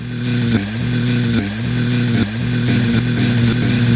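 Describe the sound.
A voice imitates a hive full of bees: a loud, continuous nasal buzz with a steady low pitch that dips and wavers briefly every second or so, with no talking.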